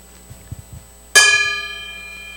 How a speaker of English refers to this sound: That was the sissiest gong I've ever... Heavens. Yeah. Would that be used for anything in particular? Call to... Yeah, it's like a cowbell here.